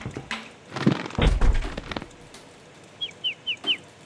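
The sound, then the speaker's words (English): Several dull thuds of a bird bumping against window glass, one heavier knock in a quick cluster, followed by four short, high chirps in an even rhythm. No one speaks. “By now, he's got to have a bird-sized concussion.”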